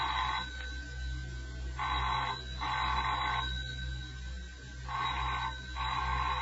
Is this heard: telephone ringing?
yes